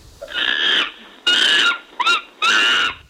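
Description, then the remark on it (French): A monkey calls out in three loud, harsh, screechy bursts, with a short rising yelp squeezed between the last two. There is no talking. “Le singe. Oui. Un point pour Léonore.”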